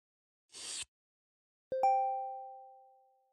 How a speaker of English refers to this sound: He swirls a stiff drink in a crystal glass.